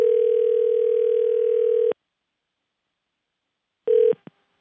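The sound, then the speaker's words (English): An outgoing call rings on the line: one long steady electronic ring tone, a pause of silence, then a second ring cut short by a couple of clicks as the call connects. “I called John Harkin up on the phone, your cousin”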